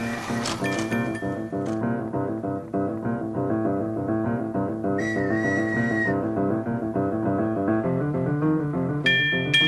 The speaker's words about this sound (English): There goes the trolley. At least his bell and whistle are working.